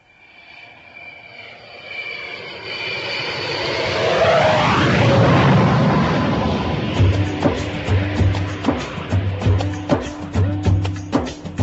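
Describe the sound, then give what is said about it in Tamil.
A jumbo jet airliner on a flight to Singapore powers up for takeoff: a rising engine whine swells into a loud, broad roar, then a steady rhythmic thumping beat joins in beneath it. “Now the flight to Singapore is ready for takeoff.”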